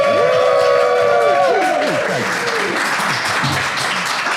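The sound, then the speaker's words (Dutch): A lively crowd of many people gathered around the camera at the launch party of the Club Dogma website claps and cheers, with loud whoops and shouts over steady applause that continues throughout. “Want er zitten hier heel veel mensen om de camera heen.”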